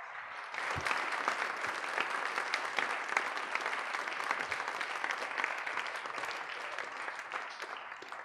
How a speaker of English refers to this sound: we should give all the boys and girls who read, who sang, who collected our offering, who all took part, and our musicians and everyone who's been helping out today, give everyone a big round of applause.